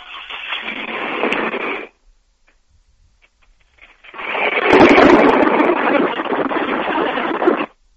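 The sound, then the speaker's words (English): A 2002 Chevy S10 Blazer with 207,000 miles starting: a loud, rough burst of engine noise that cuts off, a short quiet pause, then a longer steady roar with a low thump near its start, no talking. “I have a 2002 Chevy S10 Blazer with 207,000 miles, and Monday morning it started making a cold knock when I started.”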